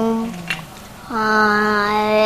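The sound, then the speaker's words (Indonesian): A child's voice imitates a tiger roar with a steady, drawn-out vocal cry held for over a second, following a short spoken word and a brief lower-pitched vocalization. “Itu suara macan.”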